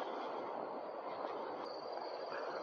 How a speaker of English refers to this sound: Boy, you hear that sound? That rumbling? That's one of those trains in the background.